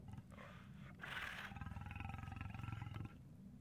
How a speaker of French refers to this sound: Un tigre. C'est un tigre féroce.